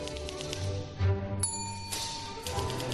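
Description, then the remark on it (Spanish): A girl cracks her knuckles in a few sharp, dry pops spaced unevenly, a bit like typewriter keys striking, heard over a steady humming musical background with no talking. “Casi, casi como suena la máquina de escribir, pero en este caso son huesos.”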